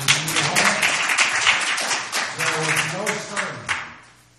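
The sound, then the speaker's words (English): A crowd claps steadily for several seconds, dense overlapping applause mixed with voices calling out and cheering, giving the Lord a hand, before tapering off at the end. “Give the Lord a hand.”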